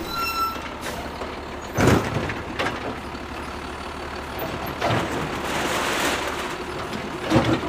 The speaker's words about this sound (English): A black 9-foot-long arm extends out from the lumbering red truck, and its claw clamps down on a blue recycle bin.